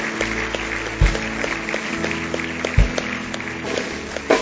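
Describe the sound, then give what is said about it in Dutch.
An audience applauds steadily for the people who made a first decision for the Lord Jesus, a dense wash of many hands clapping at once, with a couple of low thumps cutting through the crowd noise. “Oh ja, zullen we de mensen die een eerste beslissing gemaakt hebben voor de Heer Jezus ook een applaus geven.”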